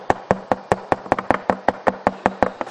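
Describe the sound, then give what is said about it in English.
A steady run of about a dozen firm knocks on a hard surface, evenly spaced and fairly quick, clear with no voices. “And what is he doing? He's knocking.”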